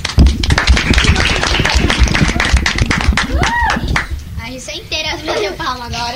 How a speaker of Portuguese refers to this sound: as minhas palmas agora.